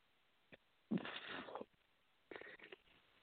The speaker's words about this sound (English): I had to belch again.